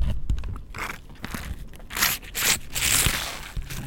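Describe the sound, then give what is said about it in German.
Crinkling Capri-Sun cherry juice drink foil pouch being squeezed and crushed, a steady stream of sharp crackly rustles with brighter bursts, moderately loud and with no talking. “Entschuldigung, das ist eine Capri-Sonne, falls ihr es gerade gehört habt.”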